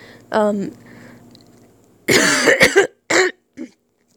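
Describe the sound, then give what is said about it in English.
A person who is getting sick gives a short voiced throat-clearing grunt, a pause, then a cluster of harsh, rasping coughs followed by two shorter hacks, fairly loud, with no talking. “I'm getting sick, so excuse all that coughing and hacking and shit”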